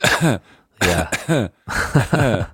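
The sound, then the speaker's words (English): Three feeble, throaty coughs in quick succession, fairly loud, a voice half-clearing its throat with a groaning, voiced quality, as if mimicking a weak cough, with brief pauses between. “people who can't cough properly.”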